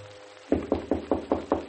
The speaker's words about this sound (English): And then, at 3 o'clock, a knock on my door.